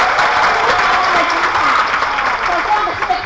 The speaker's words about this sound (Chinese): 再次热烈掌声，谢谢我们以上所有伙伴的分享。